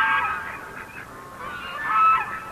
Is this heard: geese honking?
yes